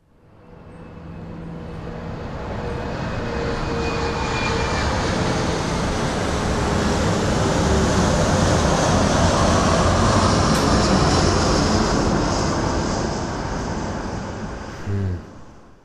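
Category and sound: vehicle, airplane engine noise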